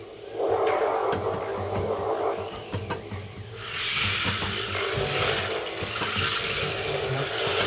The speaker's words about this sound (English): And then at a certain point, it starts to rain. And you may hear thunder, which... rumbling in the background.